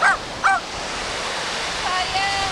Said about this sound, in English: This beach in the town of Wilson, just south of Sheboygan, is a popular place for locals to walk dogs and enjoy the water.